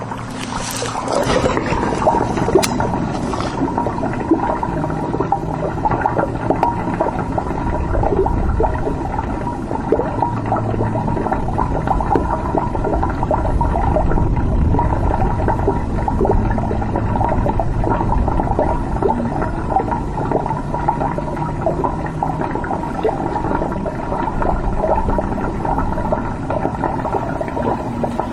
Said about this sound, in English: But that's why we're getting it recorded now. So take a listen, and you'll hear a river of living water below the empty cross in Kerrville, Texas.